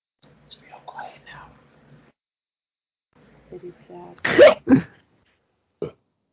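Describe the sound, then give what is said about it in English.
A loud hiccup that rolls straight into a burp, one abrupt voiced gulp-and-belch, after some quiet whispering and followed by a short sharp sound. “A hiccup and a burp.”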